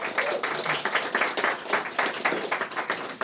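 A crowd applauds steadily, many hands clapping in a dense, continuous patter at an even loudness throughout, with no voices rising above it.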